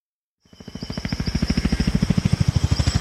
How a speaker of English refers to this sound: The helicopter made its way up the river. The rotor blade was humming against the sky.